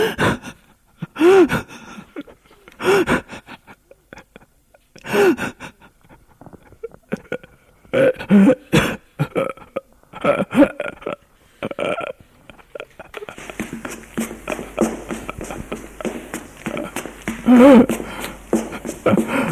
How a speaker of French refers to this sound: Il entend des pleurs.